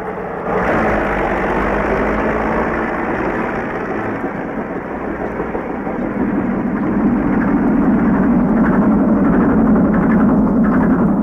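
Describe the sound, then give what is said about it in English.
A heavy tractor engine idles with a steady, rumbling drone, swelling louder and rougher partway through. No voices, just continuous mechanical noise. “Dig and scrape and load, see them tractors roll when you're working on the road.”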